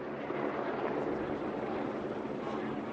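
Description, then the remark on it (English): A steady, dense engine roar with a low rumble from the first two helicopters appearing in the valley below with the lead group of a cycling race, holding at an even level throughout with no voices. “At 4:30, the first two helicopters appear in the valley below.”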